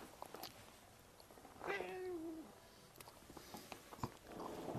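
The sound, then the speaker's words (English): A single drawn-out meow from a cat named Wilf, rising then falling over about a second, with soft rustling and faint clicks before and after. “I've also dragged my cat, Wilf, into the proceedings in a blatant attempt to increase the clicks.”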